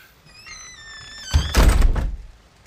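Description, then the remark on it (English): A closet door shuts: a thin, rising squeak of the door moving, then a solid thunk and a brief rattling settle. No one speaks. “Don't forget to lock the closet door.”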